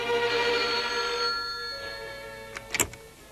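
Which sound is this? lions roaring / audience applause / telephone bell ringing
telephone bell ringing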